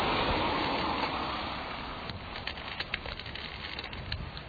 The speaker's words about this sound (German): Das Schleifen des Stockes, das Sie ganz gut hören können, bedeutet für mich zu fühlen, ob am Weg Hindernisse vorhanden sind. Da dieser Stock vor mir am Boden fährt, zeigt er mir an, ob in Höhe des Bodens oder in Hüfthöhe ein Hindernis auf mich lauert